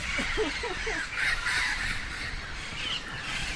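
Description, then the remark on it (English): Loud birds call outside during a walk, in a noisy, overlapping chorus, with harsh crow-like caws and squawks rising over a dense bed of chatter and steady background noise. “I get to see the Lord saying, yes, I created those birds”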